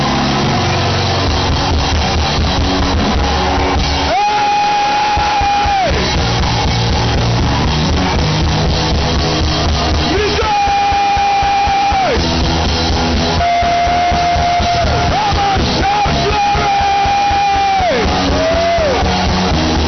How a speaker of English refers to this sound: Come and give the Lord a shout of praise.